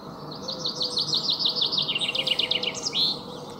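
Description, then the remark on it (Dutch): A chaffinch sings a bright, descending trill of repeated notes that speeds into a rattling flourish and ends with a distinct rising 'suskewiet' call, heard clearly over a low background hum. “Het zou een vink kunnen zijn of een dat is de vink, uiteraard. Suskewiet hoor je op het einde.”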